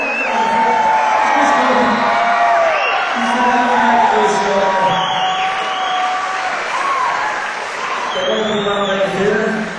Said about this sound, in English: Can we get a small round of applause?